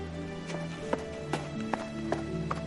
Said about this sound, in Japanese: 海の香りを胸深く吸い込んで、ヨシトは再び走り始めた。